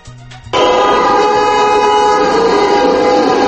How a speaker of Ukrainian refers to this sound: Оглушливе гудіння моторів та клаксонів мотоциклів, написи на плакатах «Не примушуйте нас порушувати закон». Таким чином понад 1000 мотоциклістів протестували у Ризі проти намірів латвійського уряду 8 разів збільшити транспортний податок на мотоцикли